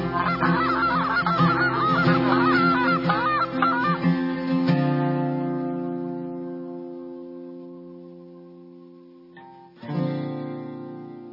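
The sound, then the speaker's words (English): A goose call blown by a champion waterfowl caller gives a quick burst of loud, nasal honks for several seconds. A sustained tone fades out after them, and a brief new sound rises near the end. “Hi, I'm champion waterfowl caller”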